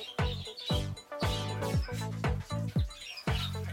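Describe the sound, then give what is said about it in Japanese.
A Major Mitchell's cockatoo named Momo-chan, a pink bird about 30 cm long kept in a bird house, gives about six loud, harsh calls in quick succession, each a brief raspy burst with no talking in between. “こちらが車坂オウムといったちょっと特殊なオウムなんですけれども、まあ、国内にはあまり流通してない鳥で10年くらい前からずっといますね。”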